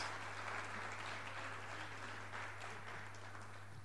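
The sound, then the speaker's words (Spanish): An audience applauds steadily for the whole few seconds, a dense, even wash of many hands clapping with no voices, over a faint constant low hum; applause for the Lord and for the brothers who will help there. “Y vamos a dar un aplauso al Señor y a los hermanos que nos van a ayudar aquí.”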